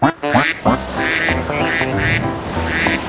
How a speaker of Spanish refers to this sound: Y hacía cuac, y hacía cuac, y hacía cuac hasta que hizo blup.